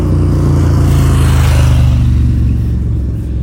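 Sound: motorbike driving past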